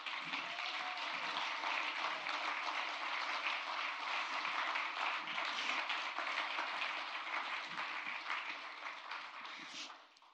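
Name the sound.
round of applause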